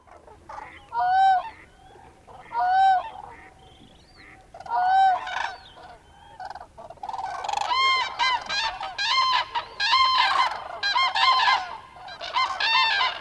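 Geese honk repeatedly at a small lagoon in the Cabañeros wetlands in winter, first in three spaced bursts of harsh, nasal calls, then building into a dense, overlapping chorus from many birds. No one speaks.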